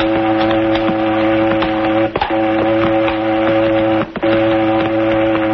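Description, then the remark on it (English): A cannery boat, one that services the fishing canneries, blows its whistle loud and steady in the harbor, a deep, rich tone broken by two short gaps into three long blasts, with no one speaking. “Must be a boat in the harbor.”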